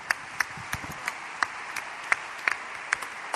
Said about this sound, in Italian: Ecco, adesso vogliamo proprio sentirti, perché davvero penso che lo Spirito Santo ci ha ispirato tutti e poi la giuria, e quindi ti diamo proprio la parola con un applauso del cuore.